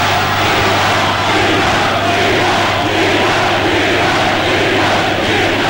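A large crowd roars and chants together, a dense, loud wall of voices sustained throughout with a steady low hum beneath, sounding like a packed hall cheering at full volume.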